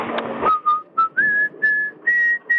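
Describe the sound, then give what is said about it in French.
A person whistles the Marseillaise, a series of clear, sustained tonal notes rising in pitch, fairly loud, after a brief burst of noise at the start. “Est-ce que vous pourriez me siffler la Marseillaise, s'il vous plaît?”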